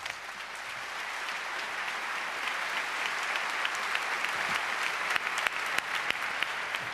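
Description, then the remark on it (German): An audience claps steadily for several seconds to welcome a speaker presenting research on security flaws in app-based TAN online banking methods, a dense, even wash of hand claps with sharper individual claps standing out toward the end. No one speaks. “Einen ganz großen herzlichen Applaus”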